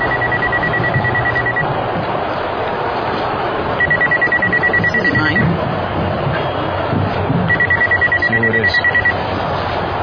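A cell phone rings in three trilling bursts, each lasting about a second and a half with short pauses between, over a busy, noisy background.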